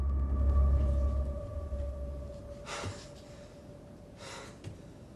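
A man breathes heavily as he opens a cupboard in a dark bedroom and turns on the light, with two loud, rasping breaths a second or so apart, over a steady low hum and no talking.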